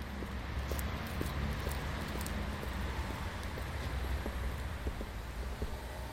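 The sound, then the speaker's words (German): A steady outdoor street ambience of cars driving, with a low traffic rumble and broad hiss, dotted with faint scattered taps like footsteps of pedestrians passing by. No one speaks. “Auf der Straße fahren Autos, Passanten gehen vorbei.”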